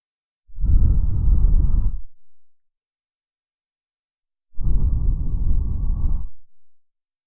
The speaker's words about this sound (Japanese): お姉ちゃんの吐息、あったかい？うん。びっくりした？